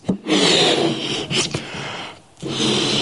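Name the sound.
balloon being blown up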